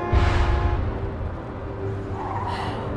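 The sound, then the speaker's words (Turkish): Loud tires screech and skid as a car swerves hard, the squeal flaring at the start, easing off, then rising again near the end over a rumbling engine. “Çaresiz yana kırdı direksiyonu.”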